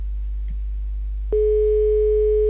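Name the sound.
telephone line tone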